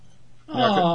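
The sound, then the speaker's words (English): After a brief quiet moment, a pet cat named Magic lets out a single loud, drawn-out meow, with no talking over it. “My cat wanted to come up.”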